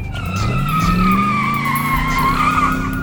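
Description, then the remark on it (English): A police prowl car pulls away in Washington, D.C., peeling out with a sustained, high tire squeal over an engine revving upward in pitch, loud, lasting a few seconds with no voices. “Pulling away, Remo picked up the dash mic.”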